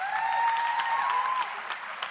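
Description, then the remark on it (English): Steady applause from an audience, a dense patter of many hands clapping at an even level, with a faint sustained tone running beneath before the clapping eases slightly toward the end. “You never quite know why young people applaud when you say how old you are.”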